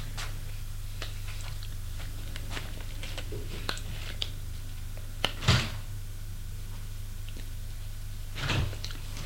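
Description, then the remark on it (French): A bathroom door opens with a few light clicks and two short, louder knocks of the latch or frame, over a steady low hum, with no one speaking. “De la porte de la salle de bain qui s'est ouverte.”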